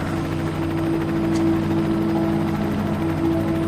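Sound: helicopter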